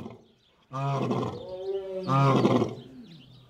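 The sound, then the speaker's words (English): Two deep, harmonic lion roars follow one another, each a loud rumbling bellow with grunting tails, separated by a brief pause and set against faint background noise. “Lions also paint, but not today. Something's up with them.”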